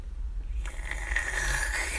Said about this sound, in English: you're so loud and you slurped the water.